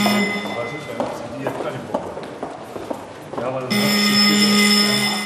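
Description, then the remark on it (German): Many hurried footsteps of party leaders, members of parliament and ministers clatter over a hard floor in the parliament in central Berlin, with murmured voices in the background; partway through, a steady electronic bell or tone starts ringing, the signal for a roll-call vote. “Wir hören die Schritte von Parteichefs, einfachen Abgeordneten und Ministern.”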